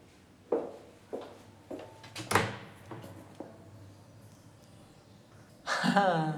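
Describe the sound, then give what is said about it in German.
A door on the right is opened: a series of knocks and latch clunks, one sharper bang among them, then a pause before a louder creaking swing at the end. “Mach mal die Tür rechts auf.”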